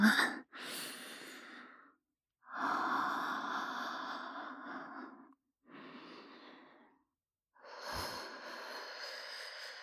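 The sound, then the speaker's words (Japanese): About five long, soft breaths blown right against the microphone, each an airy hiss separated by brief silences, with no talking. “吐息を吹きかけられて興奮する趣味、初めて聞きました。”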